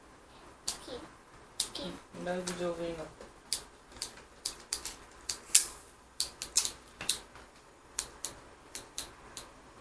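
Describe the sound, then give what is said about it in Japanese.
Scissors snip repeatedly, a series of crisp, sharp clicks in an uneven rhythm, with a person speaking briefly near the start. “なんでハサミが切るの。”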